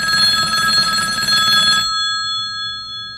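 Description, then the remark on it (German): A telephone bell rings for the first incoming call with a steady, bright metallic trill for under two seconds, then stops abruptly, leaving a faint lingering hum. No one speaks. “Es läutet der erste Anruf.”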